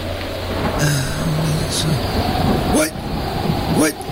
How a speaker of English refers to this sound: It's so loud here. It's so loud. There's so much wind and rain. And right now I'm between two buildings trying to get a little cover.